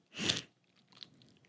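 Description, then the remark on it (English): A single sharp, breathy sniffle bursts out loud, followed by a second of faint, scattered nasal rustling and soft noises with no talking. “Watch the bar raise when I sniffle.”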